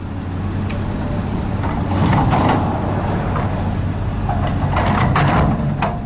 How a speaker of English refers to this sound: A few miles south of the Aransas Refuge, an earth mover loads dirt and rock into dump trucks. Development along the Gulf of Mexico is taking up land.